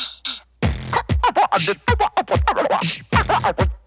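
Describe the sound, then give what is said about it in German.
A voice beatboxing over the telephone in a fast, tight rhythm of punchy kick-like thumps, crisp hissy snares and clicks, with a thin, band-limited telephone-line quality. “einen Beatbox für uns im Studio aufzunehmen”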